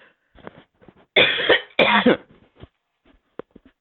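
Two loud, harsh coughs in quick succession, each a broad rasping burst lasting about half a second, surrounded by softer breathy throat noises and small clicks before and after.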